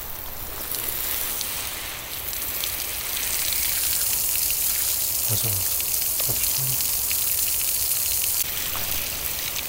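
Steady rushing hiss of water pouring and splashing onto a surface, continuous and fairly loud throughout, with a few brief low thuds partway through and no voices.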